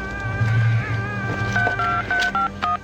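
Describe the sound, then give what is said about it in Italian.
A quick run of touch-tone keypad beeps as a phone call is dialled, about five or six dual-tone presses in fairly even succession, clear above a low steady hum. “Potrei fare una telefonata.”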